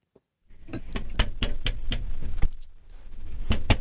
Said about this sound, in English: So here it is. First, you'll hear the knocking. Then you'll hear the police officer is the first person who talks.